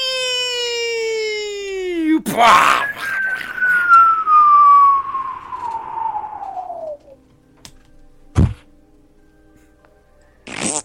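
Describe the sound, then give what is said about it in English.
A bomb-drop sound effect: a loud whistling tone slides downward, breaks into a noisy burst, and then a long descending whine fades out. Two short sharp thuds follow in the quiet. “I need a sound effect of a fucking bomb dropping.”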